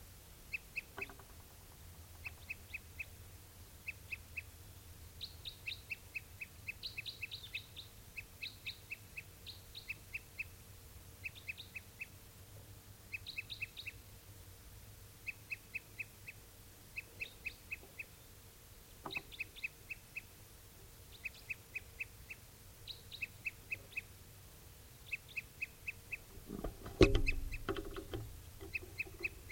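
A crossbill, one of the 'tuper' type, sings in quick clusters of short, high chirps, repeated steadily for the whole stretch at a fairly quiet level over a low background hum, with a brief louder thump near the end.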